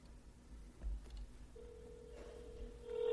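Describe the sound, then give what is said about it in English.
A cell phone call, held up to a microphone in church, rings through a speaker: a steady electronic ringing tone starts partway in and holds to the end, fairly faint over a low background hum, with no one talking. “You can hear it ringing, so it's working.”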